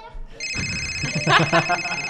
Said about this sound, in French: Ah, qui a pas déconnecté son téléphone avant l'émission ?